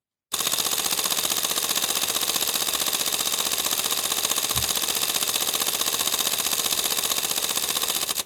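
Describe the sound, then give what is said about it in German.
A camera set to single autofocus and held up to a microphone fires its shutter in a rapid, unbroken burst, a dense stream of sharp mechanical clicks at a steady, fast rate for about eight seconds, loud and alone. “Und jetzt mache ich, ich halte es ans Mikrofon, dann könnt ihr selber stoppen, wie lange das jetzt ist.”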